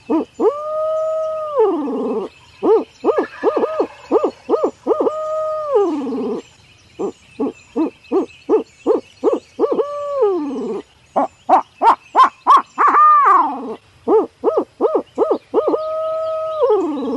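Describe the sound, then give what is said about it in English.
A barred owl hooting sequence blown on a wooden Hooks Custom Calls Signature Series Flamed Osage owl hooter: loud, rhythmic series of hoots, some drawn out and falling at the end, others quick and clipped, with a brief rising squawk. No talking. “That's just the basic calls of a barred owl.”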